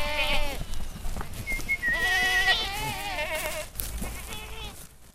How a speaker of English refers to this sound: He whistles, takes down the fence, and then, with the flake of alfalfa tucked firmly under his arm, he takes off at a dead run with 50 nannies, billy goats, and little terrier-sized kids tearing off after him. They make a lot of noise.